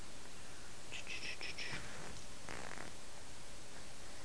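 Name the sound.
cat purring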